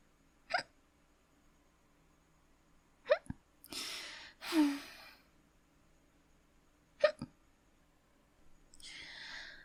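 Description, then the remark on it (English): Three sharp hiccups sound a few seconds apart, with breathy exhales and rustling in between and no talking. “My hiccups are gone.”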